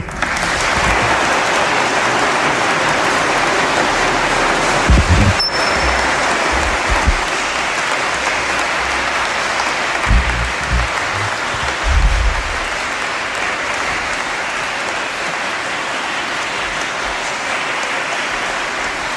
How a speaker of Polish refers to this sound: To jeszcze brawa.